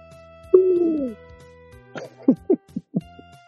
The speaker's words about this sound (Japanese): フクロウは夜だから、あ、夜フクロウいるね。12月の、あ、じゃあね、冬の一番下にフクロウとか、夏はアオバズク、この辺フクロウ系の鳴き声じゃないかな。